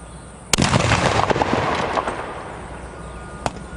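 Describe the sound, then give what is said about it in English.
A sharp blast from a consumer firework mortar round, the kind sold at fireworks stands, held by a child mannequin after its fuse is lit, followed by a crackling, sizzling rumble that slowly fades, with one more faint pop near the end. “this child mannequin who's holding mortar rounds, the kind of mortar rounds you can buy at a fireworks stand in many states”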